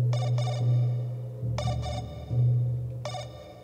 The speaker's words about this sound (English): When a quiet note chimes and the phone purrs vibration.